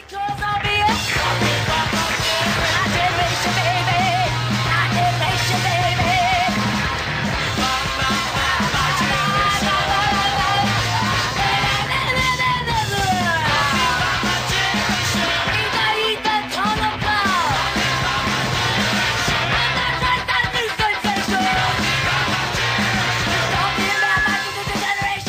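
A 1976 punk rock cover plays at full volume, with dense, driving guitars and bass under strained, shouted vocals, its loudness steady and unbroken from start to finish.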